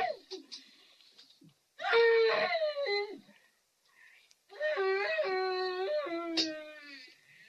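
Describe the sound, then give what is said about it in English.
A woman's voice lets out two long, high, quavering wails, each rising and falling in pitch, with a short silence between them and no other talking. “Dad, it's the screaming woman.”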